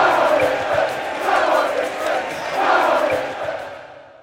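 A large stadium crowd chants and shouts in unison, the entire crowd chanting together, the roar swelling in rhythmic waves at a steady pace, dense and continuous throughout before easing slightly at the end.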